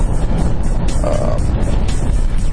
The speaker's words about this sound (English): Yeah, that's the same sort of truck that went by me this morning.